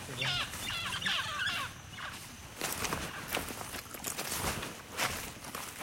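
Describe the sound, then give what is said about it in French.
A pair of parrots call while flying overhead in a burst of harsh, repeated squawks during the first seconds, fading as they pass, while footsteps crunch steadily through leaf litter in an agroforestry field with banana trees. “Et pendant ce temps-là, il y a un couple de perroquets qui passent au-dessus de notre tête en chantant.”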